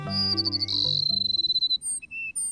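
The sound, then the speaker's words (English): A flock of Cassin's sparrows, perched atop a mesquite bush in a South Texas grassland at sunrise, sings: a fast, buzzy high trill followed by a few clear, sliding whistled notes, with low sustained musical tones fading out beneath the start. “The sun rising over a South Texas grassland finds a flock of sparrows, like these Cassin sparrows we're hearing, perching atop a mesquite bush.”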